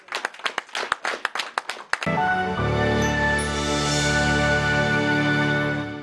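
A concert audience applauds the artists of a bishop's choir at an evening of Orthodox music, with a burst of sharp, distinct claps for about two seconds. Then the clapping gives way to a loud, sustained musical chord that holds to the end.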